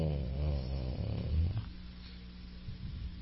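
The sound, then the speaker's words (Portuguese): A person imitates a pig snoring: rough, low grunting snorts for about a second and a half, then trailing off into a quieter, breathy rumble. “E o bicho fica aí roncando durante a reunião.”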